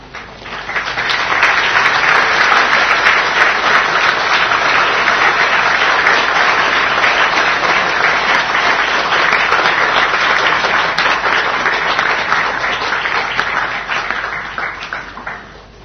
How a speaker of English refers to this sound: You clap like your hands must be really tired from picking flowers. Thank you.